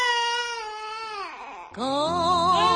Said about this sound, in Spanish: Ese es el llanto de un bebé que llegó a serlo todo en el mundo de la moda.